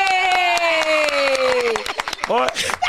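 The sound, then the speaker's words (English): A few people clap in sharp, irregular bursts throughout. A loud voice glides down in pitch over the first half, and more excited voices break in toward the end. “Now that they're done clapping, right?”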